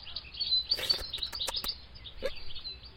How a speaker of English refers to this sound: Oh, wait. That's only an orange bird.